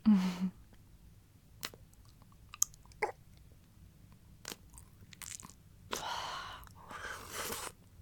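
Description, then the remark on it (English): Wet slurping mouth sounds of saliva: scattered soft clicks and smacks, then two longer, louder sucking slurps near the end, with no talking. “And then slurp it back up.”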